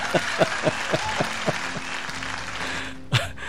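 Brief applause for the on-duty control operator of a jazz program, in about seven evenly spaced, steady claps, then a short pause and one louder closing clap, heard alone with no voices.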